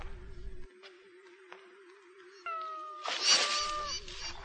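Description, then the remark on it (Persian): A cat lets out a loud, drawn-out meow that breaks into a harsh, snarling burst as a stone is thrown toward it, over a steady, wavering background tone, with no talking. “سنگی به طرف گربه پرت میکنه.”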